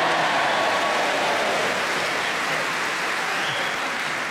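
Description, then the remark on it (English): Steady audience applause fills the whole stretch, a dense, even wash of many hands clapping at full volume with no voices on top, easing only slightly toward the end. “O on deserves a round of applause.”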